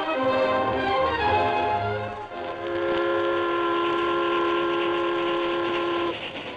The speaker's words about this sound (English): The train from St. Louis to the far west sped over the Texas prairie.